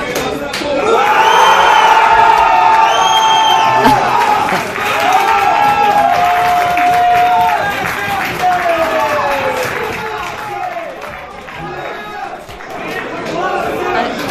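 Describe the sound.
Football fans in a bar in Moscow shout and cheer loudly after Barça's third goal, a dense roar of overlapping voices with high whoops and sustained yells that stays loud throughout, easing only slightly toward the end.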